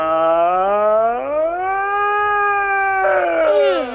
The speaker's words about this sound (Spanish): No pasa nada, solo es un bostezo. No pasa nada, no pasa nada, un poco de sueño no más que.